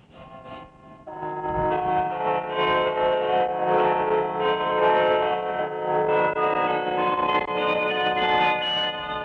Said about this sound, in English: Let us join our voices to the sounds of these bells for the glory of God the Father, the Son, and the Holy Spirit.